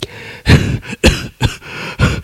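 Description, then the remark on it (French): A run of harsh coughs, about five or six loud bursts in quick succession with short gaps between them and no talking. “Encore quelques cris, quelques pleurs, ça tousse aussi.”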